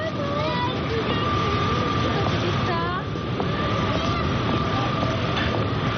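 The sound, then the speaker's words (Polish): Busy train station ambience at Paris-Gare de Lyon in France with a train pulling in: a loud, steady rumble, a sustained metallic hum and faint screeching brake squeals, with indistinct crowd murmur underneath. “Vous êtes arrivé à Paris-Gare de Lyon.”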